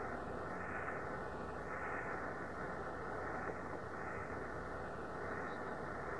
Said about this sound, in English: Quite a bit of static, quite a bit of noise being transmitted back to Earth now.